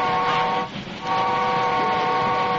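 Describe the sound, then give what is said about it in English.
A coal-fired steam locomotive whistle sounds a short blast, breaks briefly, then holds a long, steady, chord-like tone over a rough hiss and low rumble, with no talking. “Every time you blow that whistle, it wastes a whole shovel full of coal.”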